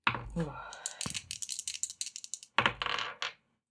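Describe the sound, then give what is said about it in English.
Dice rolled for a dodge roll in a game clatter and rattle across a hard surface in a rapid burst of bright clicks lasting a couple of seconds, followed by a few more tumbling rattles, with speech before. “My dodge is 37. I rolled a 36.”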